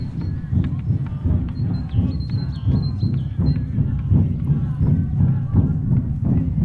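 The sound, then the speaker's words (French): Drums beat in a steady, repeated rhythm at a ritual site, with deep booming strikes layered over a dense low rumble and a thin high tone briefly sounding in the first half. “Et quand on avance sur le site, on entend des tambours. Hein, voilà, j'imagine que vous les entendez aussi.”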